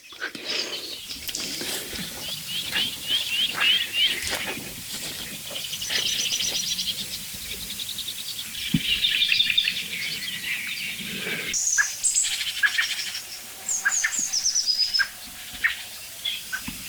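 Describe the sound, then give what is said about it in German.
Soft, low tuck calls from a Eurasian blackbird that is just flying in come through amid a busy outdoor chorus of high chirps and twitters from other birds, with no one speaking. “Da kommt gerade eine Amsel angeflogen. Das weiche Duck ist von der Amsel.”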